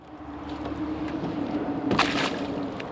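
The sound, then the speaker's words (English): A kayak is tossed into Jewel Lake in South Anchorage at the new accessible dock, hitting the water with a single broad splash about two-thirds of the way in, over a steady low rumble and hum of traffic on Diamond. Nobody speaks. “tosses a kayak into the water and then raises himself out of his wheelchair”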